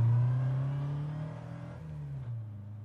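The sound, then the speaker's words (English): A car engine revs steadily as it accelerates, a strong drone with rising harmonics that shift pitch partway through, heard alone without any voices. “Now put your bloody foot down.”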